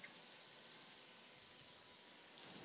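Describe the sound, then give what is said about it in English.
Salmon sizzles in a hot pan, a steady, soft crackling hiss that runs unbroken throughout, fairly quiet, with no voices. “Well, the salmon is beautifully cooked now. I can hear it sizzling away here.”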